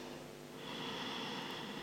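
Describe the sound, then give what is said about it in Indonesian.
A soft, airy long inhale through the nose builds after a brief pause and holds steady for over a second, quiet, with no talking. “Ambil nafas panjang dari hidung.”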